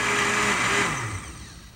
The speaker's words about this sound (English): Press one and just hang on for the ride, man. Hang on for the ride. Smoothie? Okay. Yeah, that'd be good. Yeah, here we go. This is not a test. This is the Emergency Blender Network.